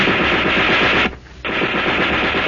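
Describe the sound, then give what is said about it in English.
A German soldier's burp gun (submachine gun) fires two rapid bursts: a harsh, loud stream of shots for about a second, a brief pause, then a second, longer burst of rattling fire. “He took two quick bursts at me.”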